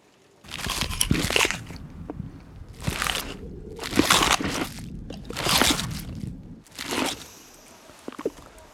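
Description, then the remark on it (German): Loud crunching of potato chips, five bursts of bites and chewing spaced about a second apart, each crisp and crackly, with no talking. “Kannst du mit den Chips aufhören? Das ist unerträglich!”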